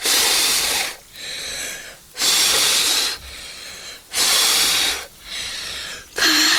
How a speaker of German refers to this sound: Ich kann nicht mehr pusten. Tja, keine Puste, keine Würste.